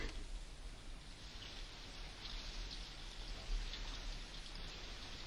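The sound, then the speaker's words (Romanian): Steady rain falls with a dense, continuous hiss, an even downpour that holds its level throughout, with no voices over it. “Dar acum s-a preschimbat în ploaie.”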